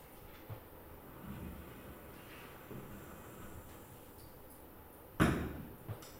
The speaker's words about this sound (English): Here is putting I don't know, petard, firecracker. Oh, yeah. Firecracker. Inside of it, and you can hear how it would sound.